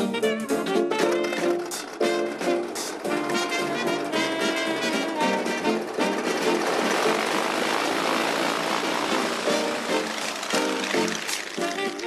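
A small propeller plane's engine drones steadily and loudly throughout, its buzzing pitch wavering slightly as it passes by, with no voices; it is pilot Bessie's tiny plane, flown in a performance before crowds.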